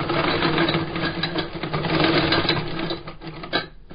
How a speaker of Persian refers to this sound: با این ماشین چرم کفش ها را می دوزد.